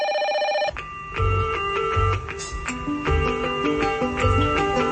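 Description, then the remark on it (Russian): A telephone bell trills rapidly for a brief moment, then gives way to a loud musical jingle with a thumping bass beat and bright repeating tones. “Протягнем программу таким телефонованием.”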